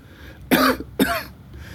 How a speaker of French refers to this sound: Maëva dort paisiblement quand … est pris d'une violente quinte de toux.